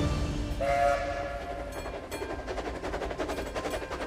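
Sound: train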